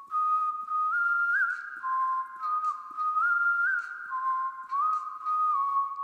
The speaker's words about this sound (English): had come in and came up with that whistle line.